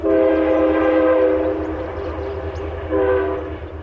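A passing Metro North Harlem Line train near Pawling, New York, where the Appalachian Trail crosses the tracks, sounds its horn loudly: one long blast, a pause, then a shorter one, all over the steady low rumble of the cars rolling along the tracks.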